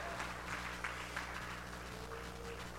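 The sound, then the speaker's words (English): An audience claps for the Lord in a steady, dense wash of applause, with a few sharper claps standing out over a low, constant hum. “Come on, somebody, give the Lord a good hand clap if you want the new thing that God has for your life.”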